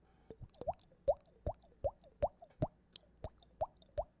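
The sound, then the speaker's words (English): A steady series of about a dozen hollow, pitched plops made by slapping a cheek, imitating water dripping, each a quick upward-bending pop at an even rhythm with no talking. “That's a drippy water sound I make from hitting my cheek.”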